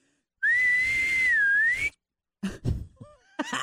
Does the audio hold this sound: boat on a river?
no